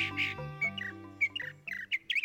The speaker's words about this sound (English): This northern mockingbird may not have much in common with us humans, but we can both learn to make complex sounds, like that impressive song or the words I'm saying right now.